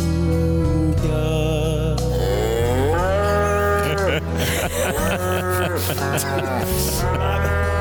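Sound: cow mooing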